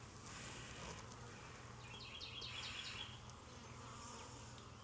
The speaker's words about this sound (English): Plenty of bees.